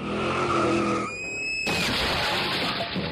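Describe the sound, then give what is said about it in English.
A car skids on a snowy road in southwestern Minnesota, going way too fast for conditions: a loud tire squeal with a wavering tone gives way to a long, rushing hiss of sliding, with no voices. “Oh, here comes a car.”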